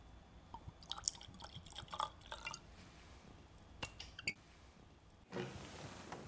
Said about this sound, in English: And really, Powers John's Lane, for me, as a single pot still whiskey, really does showcase and signify the real characteristic flavour profile of what Powers whiskey was and is today. I'd certainly like to try it. Will we pour a glass? Absolutely.